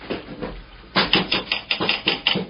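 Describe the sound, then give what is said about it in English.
A big bird taps on a hotel room window glass at night: about a dozen sharp, hard knocks in a quick, uneven rhythm, starting after a short quiet pause and continuing to the end. There are no voices. “It's tapping on our window.”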